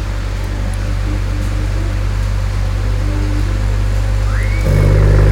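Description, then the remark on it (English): A car engine is cold-started and rumbles steadily, then near the end it revs up suddenly, the pitch climbing and the roar growing louder, through an exhaust with carbon tips and vacuum-operated valves. No one speaks. “Did you start it”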